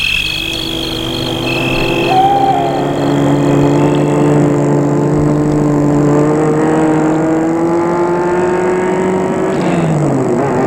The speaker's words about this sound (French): Le chauffeur sort de voiture pour appuyer à l'interphone du portail. Il entre dans la voiture et la met en route.